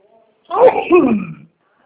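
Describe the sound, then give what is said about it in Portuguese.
A single loud sneeze, a sharp voiced burst lasting about a second that trails off, with nothing else around it. “Saúde.”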